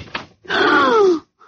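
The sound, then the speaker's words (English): A cottage door swings open with a brief click followed by a drawn-out, downward-sliding hinge creak, fairly loud, with no one speaking. “Let's open the door and rush them.”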